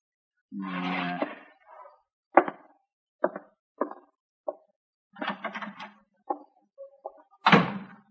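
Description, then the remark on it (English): A door creaks open with a drawn-out groan as a man walks out through it, a few sharp wooden clicks and taps follow, then it shuts with a firm thud; no one speaks. “Now get out of here. Go on. Walk out that door.”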